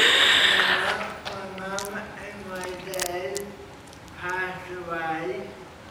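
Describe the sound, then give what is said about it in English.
A single loud, sharp sneeze bursts out at the start, followed by a stretch of people talking at a steady, moderate level. “Bless you.”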